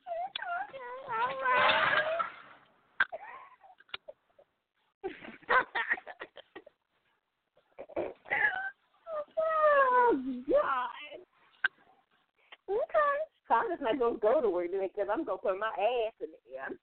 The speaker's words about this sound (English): That's that little dog.